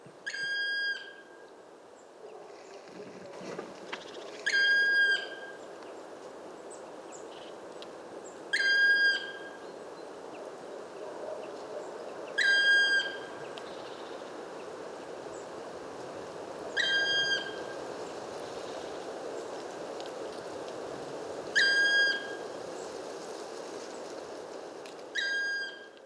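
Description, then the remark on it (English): A black woodpecker repeats a squeaky, piercing call, six evenly spaced notes a few seconds apart, clear above a steady rushing background of wind or water. “And we had this recording of a black woodpecker, which sounds really like squeaky.”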